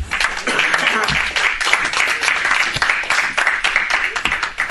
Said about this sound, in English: Would you give the Lord a clap offering?